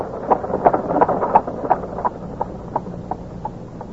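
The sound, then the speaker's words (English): Hooves of the racehorse Silver Blaze pound in a steady, rapid gallop over a windy outdoor rumble as it runs in the Wessex Cup, the beats growing softer as the animal moves away. No one speaks. “Four days later, Holmes and I saw Silver Blaze win the Wessex Cup by a good 6 lengths.”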